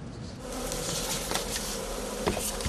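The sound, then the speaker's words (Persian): A steady swarm of honeybees drones continuously around hives at a beekeeper's apiary in Herat province, Afghanistan, where he keeps more than 300 hives; a dense buzzing hum with occasional louder passes as individual bees fly near. “او 17 سال پیش با ایجاد دو کندو زنبور به فعالیت آغاز کرد، اما کنون تعداد کندوهای او به بیش از 300 دانه رسیده”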